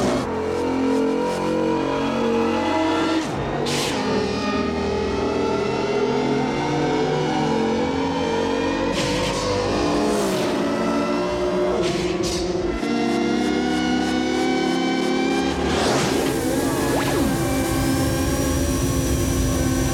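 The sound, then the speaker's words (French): Loud motorcycle engines rev and race continuously, their whining pitch rising and falling, with several sharp whooshing pass-bys cutting through the dense roar. No voices. The light cycles in the motorcycle scene of the film Tron, a sequence made mainly of computer-generated images. “La scène des motos, scène mythique de Tron, donc les lumicycles, cycles lumière, c'est une des séquences principalement composées d'images de synthèse.”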